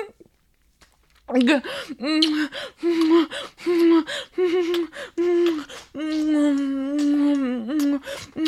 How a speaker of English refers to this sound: Oh, you're breathing hard.